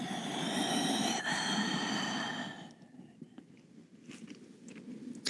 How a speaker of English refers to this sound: So exhale past that point, pulling belly muscles in so your belly becomes a part of each breath and emptying all the air out so the next breath is completely fresh. Listen to the breath, get that whispering sound in there.